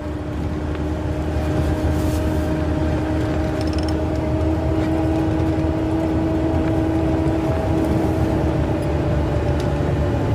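A steady low engine hum and road rumble fill the inside of a moving car, with a constant drone and a couple of tonal whines, at an even, fairly loud level throughout.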